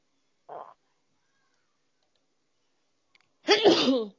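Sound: a person sneezing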